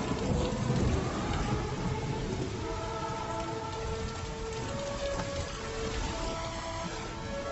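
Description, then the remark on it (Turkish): Heavy, steady rain pours down while deep thunder rumbles low underneath, loudest near the start. No voices, just the constant wash of the storm. “Yağmurun altında çatıya açılan pencereden çıktı.”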